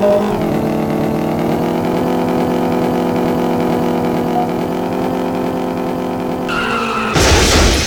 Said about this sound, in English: Wow, this car crashes easily. Like, very easily.